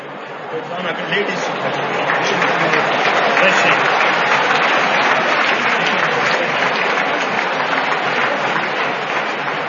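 A crowd of devotees from Russia with raised hands claps steadily, a dense, sustained patter of many hands that stays loud and even from start to finish with no pauses, and no one speaks over it.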